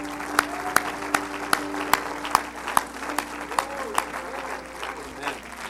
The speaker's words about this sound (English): Let's give God a great big hand clap of praise.